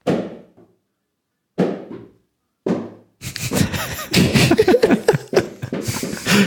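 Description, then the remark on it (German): A bouncy ball slammed onto the floor with full force smacks hard and bounces back down twice, each thud sharp with a short ringing tail and the gaps shortening, followed by loud, noisy commotion with voices. “Ich gebe dir einen Euro, wenn du dir jetzt mal volles Mett auf den Boden knallst.”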